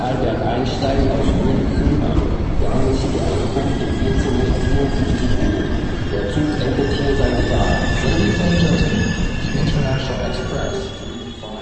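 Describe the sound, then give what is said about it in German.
A train from Munich, run by a private operator, rolls into Prague main station with a steady low rumble and faint high wheel squeals, continuous, amid the hum of the busy station; indistinct voices murmur in the background. “Prag Hauptbahnhof, der Zug aus München ist eingetroffen.”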